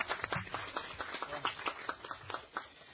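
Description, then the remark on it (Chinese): A round of applause at the fifth Yuen Long District Council meeting of 2009, welcoming the Commissioner of Police: many hands clapping in quick irregular bursts that blend into a steady patter for about three seconds, moderately loud with no voices over it. “咁喺呢度咧，我首先咧，让大家咧就欢迎我哋警务处嘅处长阿邓景成先生咧就出席我哋今次嘅会议嘅吓，希望大家掌声。”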